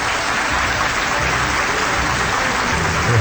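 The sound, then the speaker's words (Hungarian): Steady applause for a child fills the whole stretch, a dense wash of many hands clapping at an even, loud level with no voices standing out. “Tapsolom a gyereket, ne a holdra.”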